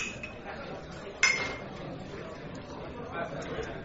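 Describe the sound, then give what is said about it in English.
A single bright, sharp clink of wine glasses filled with Algerian wine touching in a toast, over a low murmur of background chatter and noise. “Pour the man a glass of this fine Algerian vino.”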